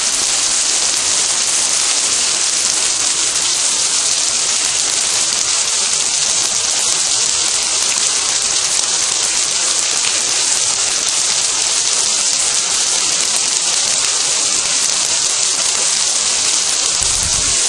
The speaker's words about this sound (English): This is hailstones hitting the glass plate roof. A minute ago it was at its worst.